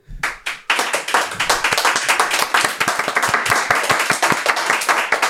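An audience breaks into applause after a brief pause, many hands clapping together in a dense, steady wash with sharper individual claps popping through, loud throughout; the audience is applauding to rate a wine.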